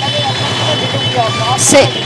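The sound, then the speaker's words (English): Steady roar of traffic on the main street through the town of Modenaga: a deep, throbbing engine rumble with a thin high whine, then a sharp burst of hissing air near the end. A faint voice murmurs underneath. “This is an audio boo of the street that I've been staying in for the last couple of nights.”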